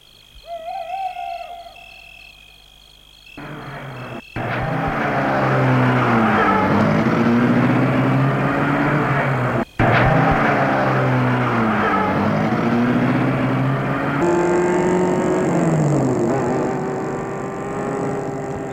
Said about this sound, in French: Un des hommes sort de voiture. Il va au portail pour l'ouvrir. Une fois qu'il est ouvert, il retourne à la voiture et la met en route.